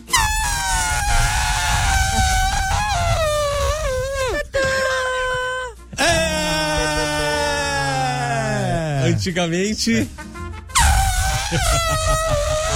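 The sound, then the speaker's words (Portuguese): A voice imitates a Lamborghini sports car engine, a loud, sustained, wavering roar that rises and swoops down in pitch over several revs, with a brief spoken word in between. “Lamborghini. Dá saudades do barulho antigo, né? Agora é um barulho normal, agora.”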